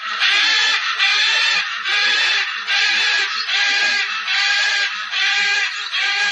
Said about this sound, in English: Here's what a macaw sounds like.